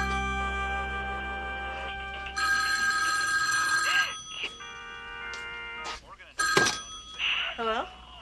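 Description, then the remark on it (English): An old-style telephone bell rings with a bright, sustained metallic trill that swells and stops, mixed with brief clatters and faint voices. “did you dial the phone yourself, or did Daddy help you?”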